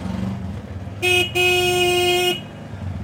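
A motorized rickshaw's small engine rumbles steadily while its horn blares twice, a short toot followed by a long, sustained honk, loud.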